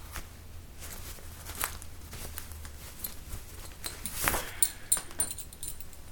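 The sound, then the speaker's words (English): A belt being unbuckled and pulled free: soft leather rustling and handling noises, then a louder sliding scrape followed by a few light metallic clinks of the buckle. No one speaks. “Take my belt off.”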